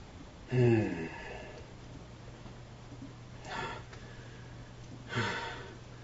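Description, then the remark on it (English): Heavy breathing into someone's ear and onto their neck: three loud, rough exhalations spaced a couple of seconds apart, the first with a slight voiced groan, over a low steady hum. “My breath hot on your neck.”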